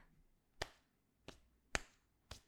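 Four sharp slaps of a hand against skin, spaced unevenly over a couple of seconds, each a crisp smack with a quick decay and near-silence between them.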